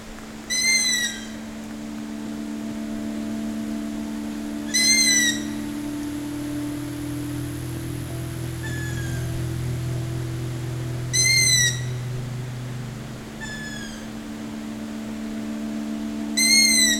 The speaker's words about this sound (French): Oiseaux de nuit. Forêt fascinante.